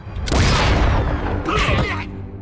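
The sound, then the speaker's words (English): A loud burst of blasting noise with a deep rumble, followed by a second rougher burst and crackling tail, like cartoon explosions going off one after another. “Okay, you think a few very painful explosions can stop me?”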